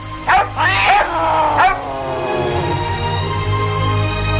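A hunting dog barks three times in quick, uneven succession, the sharp yappy barks loud, followed by a faint whining tail over a steady low background hum.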